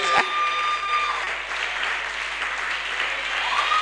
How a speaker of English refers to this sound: Oh, let your attitude of joy affect your clapping.